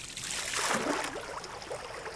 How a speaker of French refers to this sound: à chaque coup de pagaie qui rentre, mais sans trop faire de bruit